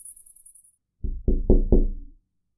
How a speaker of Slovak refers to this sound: Znelo to ako zaklopanie na okno. Ale nie. To je predsa blbosť. Kto by budil niekoho uprostred noci klopaním na okno?